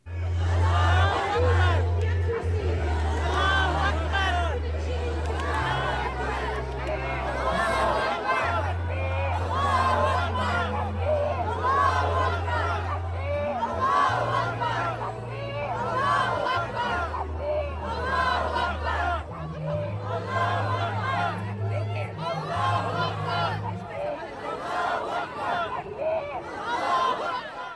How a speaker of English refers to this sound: At the City of London's Winston Churchill statue, Muslims gathered to chant Allah Akbar, or Allah is greatest. Watch this.